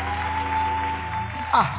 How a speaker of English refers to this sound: Please give that general of God a big, big, big hand.